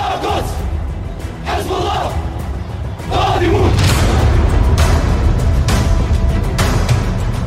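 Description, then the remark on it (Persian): A large crowd of people shouts vengeful chants in unison, loud rhythmic chanting voices rising and falling in waves over a dense roar, growing louder and fuller about halfway through. “این فریاد انتقامی که از مردم شنیده شد در سراسر کشور، در واقع این فریاد انتقام سوخت حقیقی موشک‌هایی بود که پایگاه آمریکایی رو زیر رو کرد.”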